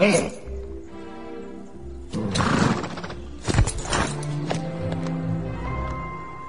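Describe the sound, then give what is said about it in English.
A horse whinnies while hooves clop and shuffle, with a few sharp knocks and a steady background hum running through the short scene. “Love that horse.”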